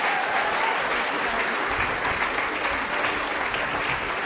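A crowd claps steadily, a dense, continuous wash of applause that stays loud and even for several seconds without any talking.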